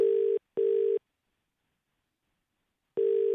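A telephone ringback tone from an outgoing call that goes unanswered purrs in a steady low pitch, a double ring followed by a long pause before the next double ring begins. It is clear and moderately loud, with no voices.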